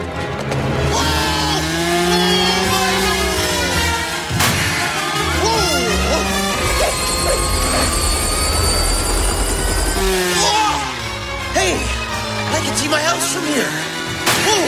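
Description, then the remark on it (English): A helicopter's rotor and engine drone loudly and steadily throughout, with voices and scattered clatter layered over the continuous mechanical roar. “Claw handcuffs Brenda to a helicopter control.”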